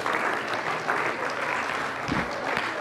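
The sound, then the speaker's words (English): Steady applause from an audience for a man, dense and continuous clapping at a fairly loud, even level for a few seconds, with no talking over it. “Wow, let's give this man a round of applause.”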